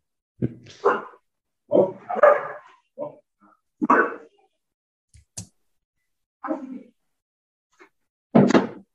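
animal, australian Shepherd dog barking

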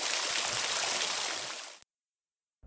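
nature, flowing water

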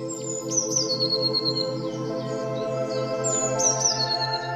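bird, bird chirping song

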